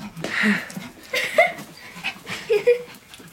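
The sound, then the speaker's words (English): A puppy whimpers in short, high squeaky whines, three or four bursts spread over a few seconds, with soft breathy panting filling the gaps. “A puppy, for me?”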